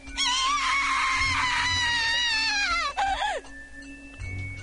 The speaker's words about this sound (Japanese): 耳をつんざくような悲鳴が病室に響いた。